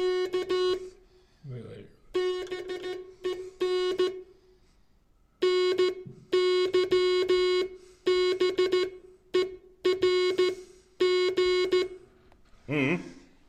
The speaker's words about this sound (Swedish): Morsekod, Samuel Morses uppfinning. Ja, och det där är med så kallad handpump.